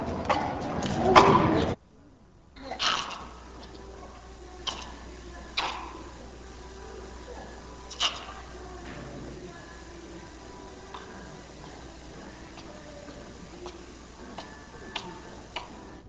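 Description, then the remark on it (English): A brief loud burst opens, then soft, short primate greeting grunts come at irregular intervals. They are quiet against a faint background hiss, with no one talking. “Greeting grunts, a fairly soft vocalization, examples 9 and 10.”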